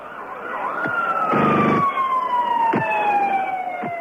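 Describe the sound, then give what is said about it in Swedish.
An ambulance siren wails steadily, its tone slowly gliding downward, over a rumbling engine and street noise with a couple of sharp knocks, at the scene of a bomb attack in Jerusalem, Israel, on 4 September 1997. “Blod på trottoaren, glasplitter, ambulanser, kaos och delar av sönderslitna människor.”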